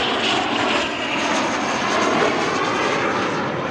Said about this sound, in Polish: O, startuje. No cały czas coś się w powietrzu dzieje, to jest rzeczywiście bardzo pociągające.